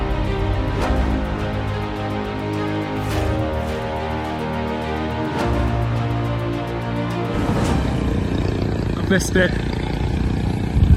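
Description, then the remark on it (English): A loud, droning jet ski engine with a buzzing, harmonic whine holds steady, then shifts in pitch partway through as it seems to pass by before continuing on. “Missed it. Oh wait, jet ski.”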